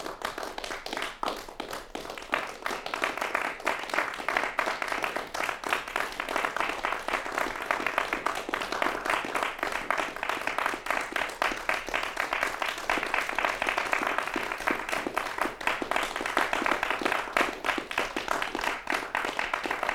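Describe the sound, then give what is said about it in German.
A crowd applauds steadily, many hands clapping in a dense, crackling wash that holds an even loudness for the whole stretch, with no voices rising above it. This is 'Applaus', a piece by Robert Adrian X and Rupert Huber, opening Kunstradio's long night of new Austrian music. “Applaus für die lange Nacht der neuen österreichischen Musik, die das Kunstradio heute einleitet.”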